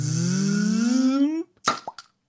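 A cork pops out of a bottle: a long squeaking whine rising in pitch as it works loose, a brief pause, then a sharp, close pop followed by two smaller knocks.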